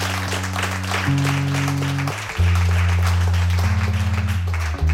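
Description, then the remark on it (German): An audience claps steadily and densely throughout, a continuous patter of many hands, welcoming a solo singer with her guitar before her set. Low sustained tones shift pitch a few times underneath the applause. “Vielleicht nochmal ein schöner Applaus für Kira Hummen, meine Damen und Herren.”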